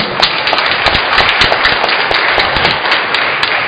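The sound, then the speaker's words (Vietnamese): A large crowd in a Catholic parish applauds steadily, a big round of applause for the patron saint of all mothers, Saint Monica; a dense wash of many hands clapping with sharper individual claps popping out, sustained and fairly loud throughout, no voices. “Trước hết hôm nay chúng ta chúc mừng bổn mạng của tất cả các bà mẹ trong giáo xứ chúng ta một tràng vỗ tay thật lớn.”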